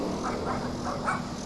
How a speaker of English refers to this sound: Yeah, it's the doggies. You see the doggies? What the doggy say? Woof, woof, woof, woof, woof, woof.